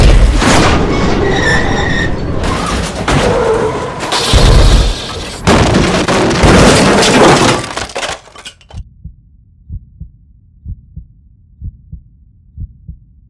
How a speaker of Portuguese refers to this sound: Acabei abusando da velocidade mínima e a curva chegou traiçoeira. O outro carro ultrapassou sua faixa e nos encontrou de frente.